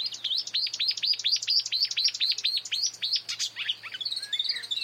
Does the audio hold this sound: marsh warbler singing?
yes